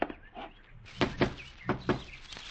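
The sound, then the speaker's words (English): Knocking on a door: two quick pairs of firm raps with a short pause between, then a fainter tap, against a quiet background with no one talking. “Fred, get the door.”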